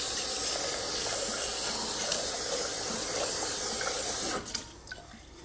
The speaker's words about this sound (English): So I'm just kind of filling up the pan with water and swishing the rice around in it. And you can see the water, you can turn opaque and starchy.